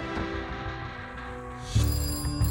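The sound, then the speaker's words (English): A telephone rings with a steady electronic tone, growing louder and brighter partway through and continuing to the end, as Dorothy calls Belli. No voices are present. “Once again, Dorothy called Belli.”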